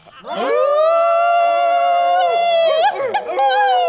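A long, steady howl rises quickly and holds its pitch for a few seconds, then wavers and breaks into shorter yelping howls near the end, loud with no talking.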